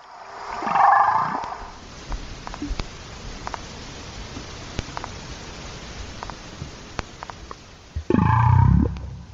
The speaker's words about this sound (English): Whale sounds do have an undeniably magical quality, don't they?